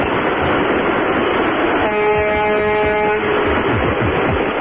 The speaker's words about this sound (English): Honk your big truck driver horn at them.